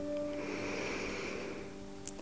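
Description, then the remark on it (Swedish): A long, slow breath drawn in during a guided mindfulness breathing exercise, soft, lasting over a second against a steady low tonal hum, followed by a brief faint rustle. No one speaks. “Andas in.”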